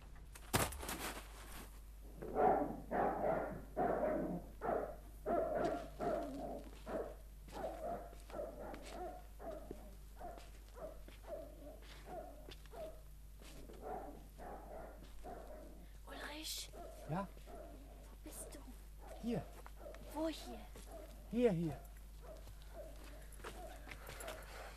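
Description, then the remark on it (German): A dog barks repeatedly in quick clusters, with high whimpering whines slipping in between, over a steady low background hum. “Komm, wir laufen ein Stück. Sonst weckt der Hund noch das ganze Heim auf.”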